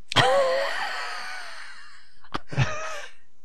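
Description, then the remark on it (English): A voice imitates a steam engine from the back of the throat: a long, breathy, whistling hiss that slowly fades, then a sharp puff and a shorter hissing burst. No words are spoken. “I was doing that steam engine sound with the back of my throat.”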